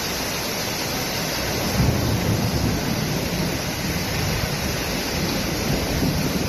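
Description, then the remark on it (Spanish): A heavy thunderstorm downpour at night in the municipality of Lorca, dropping 17.4 litres of water per square metre in under an hour, roars in a dense, steady wash of noise, loud throughout with no clear breaks. No voices are heard. “Una tormenta que sonaba así.”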